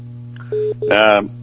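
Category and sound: signal or alarm, telephone call connecting tone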